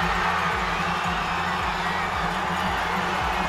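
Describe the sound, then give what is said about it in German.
A large crowd roars and cheers continuously at a loud, steady level, with a low rhythmic droning underneath, at the finish of a World Cup giant slalom ski race in Adelboden, Switzerland, as a 24-year-old racer crosses the finish line. “Und der 24-Jährige, der ins Ziel gerast ist und auf dem Screen ein ganz grosses, dickes Eis aufgeleuchtet hat, ja, da hat das Publikum dann komplett durchgedreht.”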